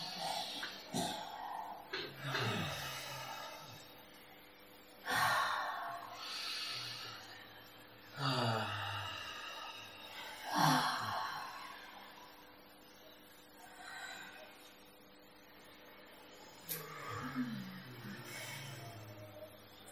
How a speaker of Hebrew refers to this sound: לקחת קודם כל שלוש נשימות עמוקות, עמוקות. כל נשימה יותר עמוקה מקודמתה.